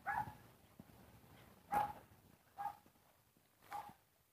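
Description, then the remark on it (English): A Scottish terrier gives four sharp, high barks spaced irregularly over a few seconds against a quiet outdoor background with no talking. “She comes with her little Scotty dog.”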